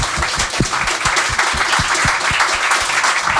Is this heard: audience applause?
yes